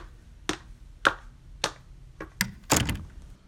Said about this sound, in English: Mildred slams the door behind her.